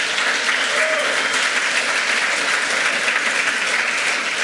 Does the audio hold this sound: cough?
no